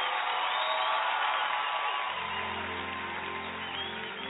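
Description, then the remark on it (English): An audience gives Jesus a round of applause, clapping and cheering in a dense, steady wash with scattered whoops, and a sustained low organ-like tone joins about halfway through. “Can we give Jesus a correct, wonderful head of applause in this place?”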